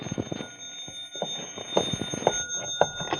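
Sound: telephone ringing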